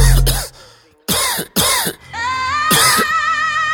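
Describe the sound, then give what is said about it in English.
Four harsh coughs come in quick succession in a rap track, loud and raspy, with a sustained tonal musical backing droning underneath the later ones. “But my flow cold, so I'm coughing.”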